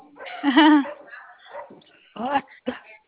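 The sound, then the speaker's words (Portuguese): A dog barks in a few loud bursts: a drawn-out, whining bark first, then two quick, sharp barks after a short pause. “Ah, o cachorro chato, Jesus.”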